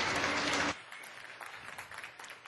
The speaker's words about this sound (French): Come on up and do your sketch. Allez, faites votre sketch. Hello. Allô? Come on. Round of applause. Une ronde d'applaudissements.